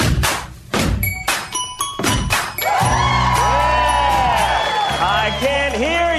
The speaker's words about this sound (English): Not true, of course, but cheer louder.